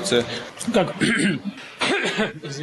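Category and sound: human body sound, man coughing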